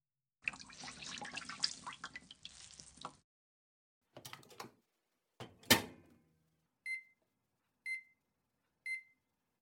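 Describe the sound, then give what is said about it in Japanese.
Water runs from a tap for a few seconds while a hot steamed towel is being prepared, followed by a couple of short rustling, splashing handling sounds, then a microwave oven heating the towel gives three evenly spaced electronic beeps. No one speaks. “それじゃ、最初は軽く蒸しタオルで。ちょっと待って。”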